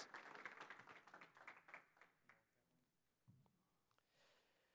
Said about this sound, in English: Give Jesus a hand clap for this precious little one.